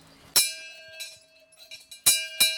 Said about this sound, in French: Personne ne répond à la cloche lorsque je sonne.